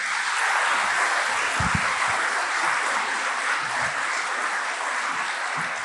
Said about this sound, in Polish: Zapraszam, dajcie im ogromne brawa.